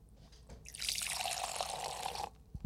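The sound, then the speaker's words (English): A steady, hissing rush of wine shooting at full speed out of the nozzle of a full Black Box boxed wine, lasting about a second and a half, then cutting off, followed by a couple of soft clunks. “Because a full box of wine shooting out at full speed is something to behold.”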